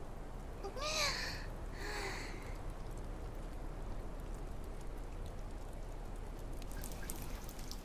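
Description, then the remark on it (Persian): Rain starting to fall, a steady, soft hiss and patter that is even throughout, with a couple of brief high-pitched chirps near the start and no one speaking. “این داره بارون میگیره، باید برم.”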